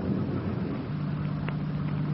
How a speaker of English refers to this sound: The car's coming up the road toward us, softly. Yeah. Wait a minute. Coming over this way.